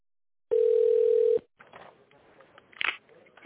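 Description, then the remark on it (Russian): A telephone line tone on a call to the company XCOM: one loud, steady, low-pitched beep lasting about a second, followed by faint crackly line noise from a bad connection with a brief burst of static near the end. “Если вы знаете номер абонента, наберите его в тоновом режиме.”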